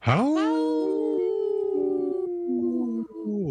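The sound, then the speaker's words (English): A person imitates a wolf howl with one long, sustained, rising-then-steady wail lasting a few seconds, loud, with a slight wavering break near the end. “That was a good howl.”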